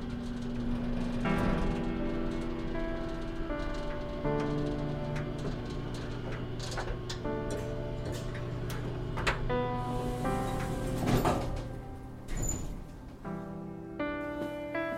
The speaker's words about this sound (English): After touring the first floor, we took an elevator up to the second floor. The elevator ride was slow for only going up one level. It creaked and groaned as if it wasn't used to operating.